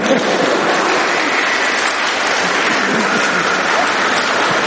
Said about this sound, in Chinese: 拍手啦你哋！